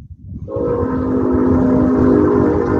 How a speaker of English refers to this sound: Look out. There's a train. A train? Yeah.